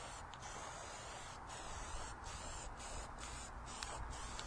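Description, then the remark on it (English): A steady hiss of aerosol spray paint, shaken first and applied in a layer across a template on a map segment, runs continuously for several seconds, broken by a few brief dips as the nozzle is released and pressed again. No one speaks. “Shake your spray paint up and go ahead and just apply a layer of spray paint all across the template.”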